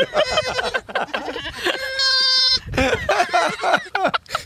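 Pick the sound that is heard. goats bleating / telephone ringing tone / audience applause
goats bleating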